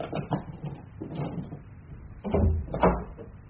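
A key rattles and clicks in a lock, followed by a door being pushed open with a heavier clunk and thud near the end. No one speaks.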